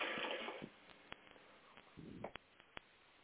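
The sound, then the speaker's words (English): Water is poured into a Great Dane's water bowl: a short rushing splash, then scattered drips and small clinks, and a brief second trickle before it settles. “And I'm going to share with my Great Dane water bowl and share with us this water of living light.”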